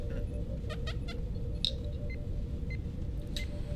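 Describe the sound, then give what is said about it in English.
Several short, thin cat meows come through over a steady low rumble and a faint constant hum, scattered irregularly across a few seconds and fairly quiet against the background. “Do not tempt the kitty with flame.”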